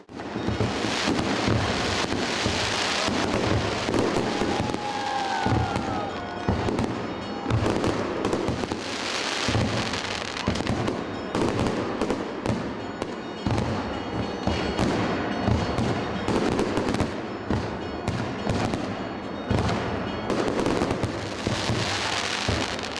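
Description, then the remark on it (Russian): Easter fireworks in Yekaterinburg burst in a dense, unbroken barrage of loud booms and sharp crackles, with a brief whistling streak early on and a rumbling, wind-buffeted background throughout. No one speaks. “В небо взметнулись хвостатые кометы, огненные вихри, диковинные фигуры.”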